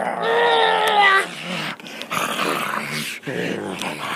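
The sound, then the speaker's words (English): A child growls in imitation of a wolf, starting with a strained, tonal snarl and breaking into rougher, raspy growling, loud for several seconds. “You be another wolf. Another wolf? Arr, I'm a wolf too.”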